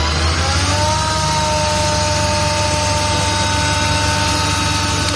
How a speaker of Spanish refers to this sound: Mira, la empresa de ingeniería IANUS ha desarrollado durante 4 años un sistema integrado de recolección de frutos directamente del árbol. Sí, se trata de un tractor inteligente.